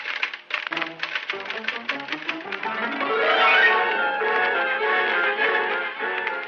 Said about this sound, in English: Coley Borden went back to his desk and sat down. Pretty soon, he began typing.